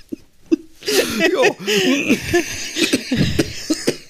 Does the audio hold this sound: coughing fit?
yes